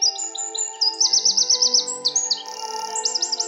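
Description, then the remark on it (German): A wren's bright, high song races through a fast, rattling trill of rapidly repeated notes, with sharp chirps before and after, heard over a steady low background hum. “Oder beim Zaunkönig habe ich das auch so gemacht. Ich bin der König. Also so auch diesen Triller so überzeichnet.”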